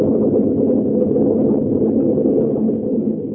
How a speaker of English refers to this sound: There. There, we saw the lightning then. Now we know that thunder is coming.